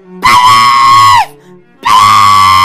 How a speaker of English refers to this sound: Just stop screaming!